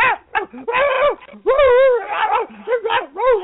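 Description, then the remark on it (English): A man's voice imitates a dog barking, a rapid series of loud, yappy barks and whiny yelps with wavering pitch, performed alone without other talk. “Yeah, that's just me imitating a dog barking, but that's not too good.”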